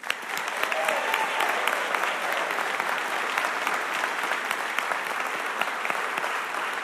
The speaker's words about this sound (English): And let's give a big round of applause for tonight's recipients.